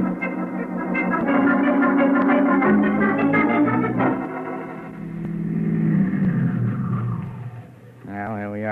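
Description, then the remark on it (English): A car engine rumbles loudly and steadily as the vehicle drives, its tone shifting as it eases off, with a brief rising rev near the end. “Don't get out of the car.”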